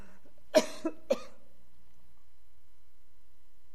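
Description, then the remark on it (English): A speaker at a court hearing gives three quick coughs in a rapid burst, the first loudest, followed by near silence with no talking. “sorry, I'm having a little coughing fit.”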